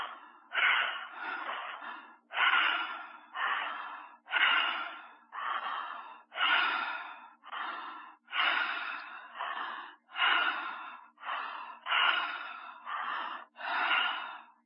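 Quick, steady breaths in and out through the mouth repeat without pause, about two each second, loud, with no talking over them, during a guided breathing exercise as the belly rises and relaxes.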